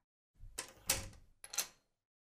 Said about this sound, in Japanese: 相手してやるから、玄関鍵かけて上がってきて。